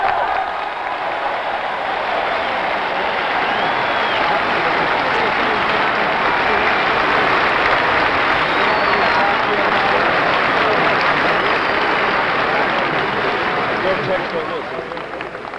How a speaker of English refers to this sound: A great deal of applauding here, a great deal of waving of placards and signs. Reverend Dr. Martin Luther King.